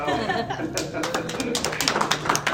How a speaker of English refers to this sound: can we take a minute right there and applause?